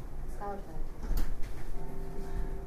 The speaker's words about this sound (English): The screen door.